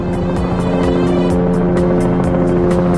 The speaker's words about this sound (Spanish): Helicóptero de la Policía Nacional que rastrea el río Ebro a su paso por Logroño.